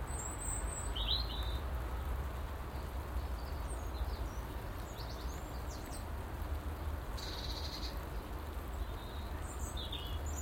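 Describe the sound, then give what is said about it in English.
A blackbird, come down for a drink at a bird bath, gives a few short, high chirping calls at intervals over a steady hiss of rain and a low rumble throughout. “Mr. Blackbird's come down for a drink at the bird bath.”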